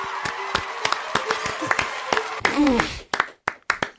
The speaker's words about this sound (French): Mesdames et messieurs du tribunal, aujourd'hui, nous accueillons un invité d'exception que le monde entier nous envie. Grande star de cinéma, charmeur aux mille visages, veuillez faire un tonnerre d'applaudissements pour Brad Pitt.